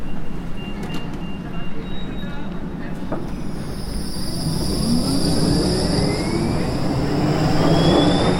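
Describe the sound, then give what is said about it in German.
A tram pulls away from a tram stop on a Tuesday evening around 7 pm, with a low rumble as its electric motor whine steadily rises in pitch, growing slightly louder over several seconds amid street background noise. “Mist, jetzt ist sie direkt vor der Nase weggefahren. Und die nächste Tram kommt erst in 7 Minuten.”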